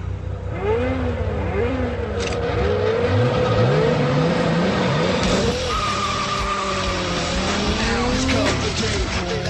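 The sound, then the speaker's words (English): Loud car engines from the movie Fast and Furious roar and rev, pitch sweeping up and down as they speed past, with tires squealing and skidding amid a dense, cinematic mix of noise throughout. “Well, your car may sound fast and furious these days, but the auto industry's secret, that engine sound may be fake.”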